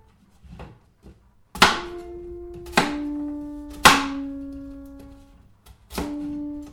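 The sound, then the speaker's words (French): A knife chops a peeled piece of food into small dice with four sharp, uneven strikes, each leaving a ringing, humming tone that fades slowly. No one speaks. “Et ensuite, je le découpe simplement en petits dés qu'on appelle parfois des mesures. Comme ça, vous voyez.”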